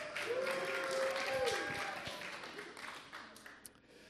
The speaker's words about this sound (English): Give yourselves a cheer.